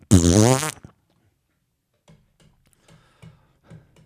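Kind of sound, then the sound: sound effect, fart sound effect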